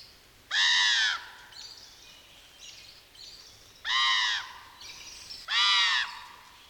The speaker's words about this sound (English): First, a screaming common raven to set a Poe-esque mood.